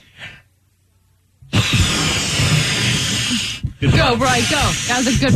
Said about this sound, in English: blowing up a balloon with his nose.